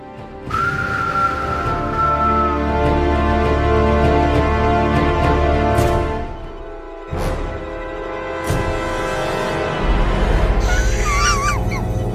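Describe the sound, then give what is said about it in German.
A breathy, airy attempt at whistling with very dry lips that mostly produces rushing breath, with a thin wavering tone early on and a few brief, unsteady pitched chirps toward the end. “Das klang jetzt mehr wie so ein laues Lüftchen, was da durchpfeift, weil viel Platz im Kopf ist.”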